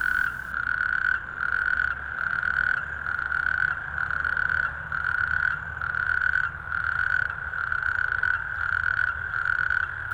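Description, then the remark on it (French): A natterjack toad calls with a loud, unbroken rattling trill that pulses in steady, regular surges, dominant over a low background hum, with no voices. “Alors on va écouter justement le crapaud et calamite, on va écouter son chant.”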